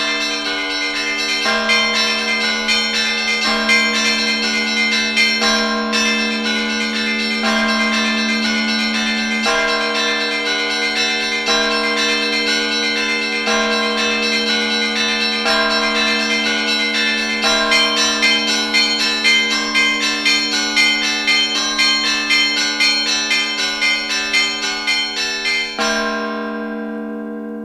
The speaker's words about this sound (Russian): Колокольный звон – мода или традиция? Об этом мы сегодня поговорим с нашими гостями.